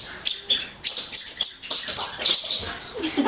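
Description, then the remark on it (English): Shaken Radha Krishna toy figurines from Gujarat give off rapid, bird-like chirps and tweets, a busy cluster of high twittering bursts repeating over a few seconds, with no talking. “It's Radha Krishna when you shake them, they sound like birds.”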